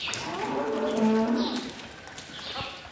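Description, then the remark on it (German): A herd of 30 brown Angeln dairy cows moo in a barn in the morning as they get up and shuffle toward the milking room, one long low moo swelling and fading over a couple of seconds, with faint overlapping calls and soft barn noise around it, no talking. “Gemächlich steht eine Kuh nach der anderen auf. Die Herde schlurft langsam in Richtung Melkraum.”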